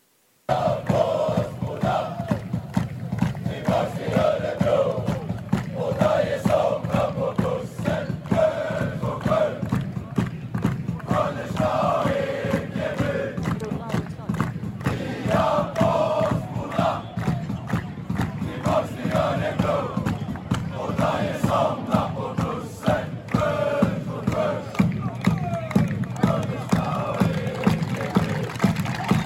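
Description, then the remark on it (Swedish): A large crowd of fans roars and cheers continuously for half a minute, with rhythmic swells of chanting voices rising over a dense, loud wall of noise, giving a departing player a farewell at the last-round away match against Eskilstuna. “Det är ju jättefina scener det här, så att publiken har förstått eller vet kanske genom någon som känner någon att det här är Dajes sista match.”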